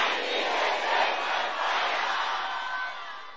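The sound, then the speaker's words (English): A large crowd of voices shouts 'My Father!' together in one sustained, loud roar, a dense wash of overlapping voices that holds steady for a few seconds before easing slightly at the end. “Can you shout it again?”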